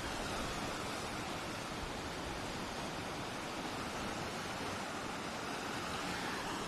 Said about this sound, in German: bin extra so ein paar Schritte rausgegangen, direkt zum Meer, weil ich gedacht habe, komm, ich gebe euch ein paar Eindrücke von den Wellen. Und jetzt halte ich mal die Klappe in der Hoffnung, dass ihr das Meer auch wirklich gut hören könnt.